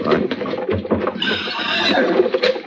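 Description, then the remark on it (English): A horse whinnies in a high, wavering cry lasting under a second, set against a busy, rumbling background of shuffling and movement, moderately loud. “hold on to them horses.”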